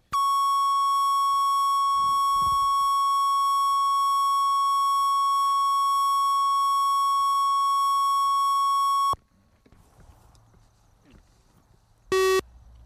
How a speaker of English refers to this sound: This is September 14th or something like that. It's camera roll two, sound roll two. Transfer tone follows.